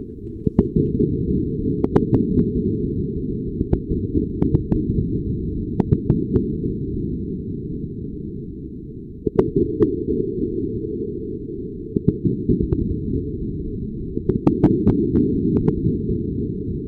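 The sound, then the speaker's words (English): An underwater hydrophone recording from the top of Axial Seamount, a volcano on the Juan de Fuca Ridge, carried in real time by a fiber optic cable deep in the ocean: a steady, muffled low rumble broken by sharp, irregular cracks and pops, sometimes clustered in quick bursts. No voices are heard. “Well, you're listening to hydrophones, and they're on top of a volcano known as Axial Seamount.”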